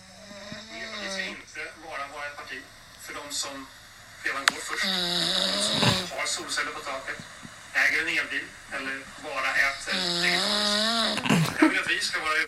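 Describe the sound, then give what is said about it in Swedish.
A voice imitates a mother's loud, drawn-out snoring: a series of wavering, rasping snorts with noisy gasping breaths in between, continuous for several seconds. “Vem var det som snarkade? Det är klart det var mamma.”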